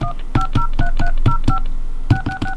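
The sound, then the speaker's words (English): A rapid series of touch-tone beeps from a telephone keypad as 1, an area code and a phone number are dialed on a prepaid calling card line, about ten short dual-tone presses in quick succession with a brief pause before the last few, clear. “To make a call, dial 1, area code, and phone number now.”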